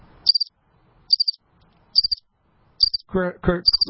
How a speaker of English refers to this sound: Crickets.